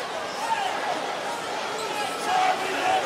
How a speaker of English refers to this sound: One other thing to mention here is how quick ESPN's TV broadcast filled in fake crowd noise of chants of refs, you suck, which is interesting.